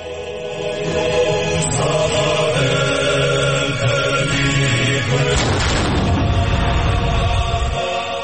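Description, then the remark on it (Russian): A single cannon shot booms out partway through, its deep rumble trailing off over a dense, steady background of music and outdoor crowd noise; a cannon salvo in Telavi, at the royal palace, marking the inauguration of fifth president Salome Zurabishvili. “Там нет царского дворца, как в Телави, где вступление в полномочия пятого президента Зурабишвили отметили даже пушечными залпами.”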